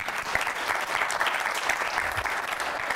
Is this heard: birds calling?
no